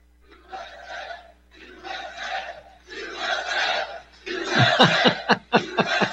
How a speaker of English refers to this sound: You can tell when people are saying something versus when they're shouting it. This whole crowd, you can hear these Iowa voices, just these loud, they mean it when they're chant, when they're supporting Donald Trump with their USA chant.